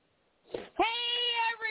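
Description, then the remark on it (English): A single drawn-out cat meow, fairly loud, rising sharply after a short breathy onset and holding steady before trailing off, with no talking. “God, can a cat just get some sleep around here?”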